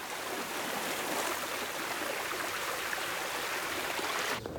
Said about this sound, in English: Water floods over the newly replaced pink tiles at the bottom of the villa pool.